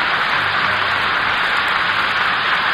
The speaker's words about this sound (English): Now the applause of our studio audience marks the entrance of Leopold Stokowski from the wings to take his place before the orchestra.